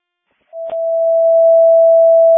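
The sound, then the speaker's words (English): A fire station alerting test tone, sent while dispatch works on a station alerting issue. After a moment of silence, one steady, mid-pitched pure tone starts, broken early by a brief click, then holds loud and unwavering to the end. “You can disregard any test tones or tests you're getting on CAD.”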